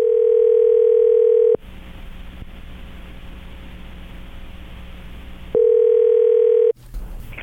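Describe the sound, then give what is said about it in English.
A telephone ringback tone sounds while a call from the Breakfast Club radio show on K99 goes through to a listener: two loud, steady electronic rings separated by a pause of line hiss, clear with no one talking. “We'll grab her phone number off the air, and then we'll give her a call and try to get her on the phone.”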